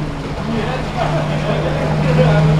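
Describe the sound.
The electric motor of the Maid of the Mist tour boat Glynn, powered by lithium-ion battery packs, runs with a steady, low tonal hum beneath a wash of water and wind noise, moderately loud and continuous, with faint voices mixed in.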